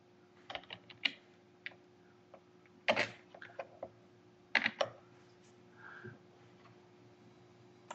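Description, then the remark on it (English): Irregular bursts of clicking keys as someone types an email on a computer keyboard, with a few louder clustered keystrokes over a steady low hum, no one speaking. “Doing that mail thing again, typing and trying to talk at the same time, and it just doesn't work.”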